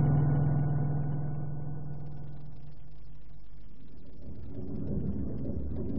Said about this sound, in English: Okay, pilot, let's go. Our helicopter's always this noisy.